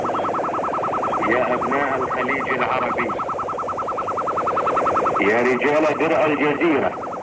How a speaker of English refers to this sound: transmissions were heard on 21 675, 17 895, 15 505, 15 495, 15245 and 13610 kHz throughout Thursday and early Friday morning, August the 3rd. Most of the lower frequencies suffering from deliberate interference by Iraqi jamming transmitters.